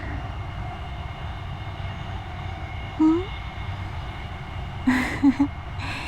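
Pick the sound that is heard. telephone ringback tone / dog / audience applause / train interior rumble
train interior rumble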